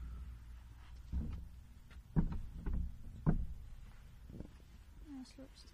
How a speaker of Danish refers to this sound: Der er en scooter forbi ude på vejen. Er der mange scooter i Roskilde?